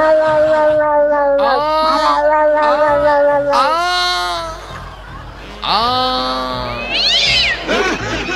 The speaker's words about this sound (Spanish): Me gustó. Era un gato en celo.